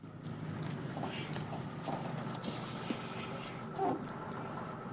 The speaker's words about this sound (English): A bus stops and they get in.